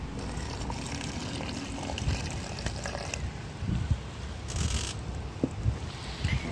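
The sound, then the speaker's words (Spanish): Water pours steadily into a food preparation of sea salt and olive oil, added until it turns creamy, a continuous splashing trickle lasting several seconds with a few louder gurgles near the end, with no one speaking. “Y agua en cantidad necesaria como para que nos quede una consistencia cremosa.”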